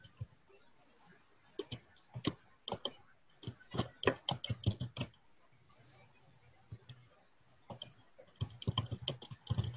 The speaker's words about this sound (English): Okay. I hear somebody typing.